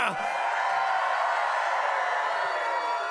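A crowd of peasants and fellow druids cheers in a dense, steady roar after stepping out of their little hamlets in the forest of Cormanthor, many voices blending together at a constant loud level for a few seconds without letting up.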